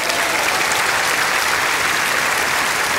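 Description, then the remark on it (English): Loud, sustained applause from a large crowd in Malta, a dense unbroken wash of clapping that holds steady for the full three seconds with no voices standing out. “And therefore, I'm going to ask you, give them the biggest applause you ever gave in Malta here.”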